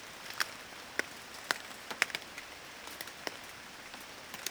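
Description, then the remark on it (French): Large water drops fall one by one from tree branches and remaining foliage, where very fine rain gathers into big drops, landing in sharp, irregular plinks over a soft hiss of the fine rain, their rhythm varying with gusts of wind, with no voices. “c'est plus ces gouttes d'eau qui tombent des arbres qui font le bruit de la pluie que la pluie elle-même”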